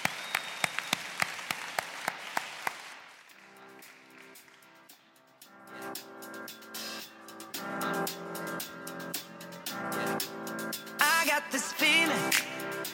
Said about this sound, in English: Small group leaders, I love you guys from the bottom of my heart, and you are the heart of the 514 family. Let's give our leaders a huge round of applause.